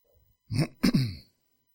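A person in an audience clears their throat, two rough, gravelly bursts in quick succession, then quiet. No rustling or crowd noise stands out, and nobody speaks.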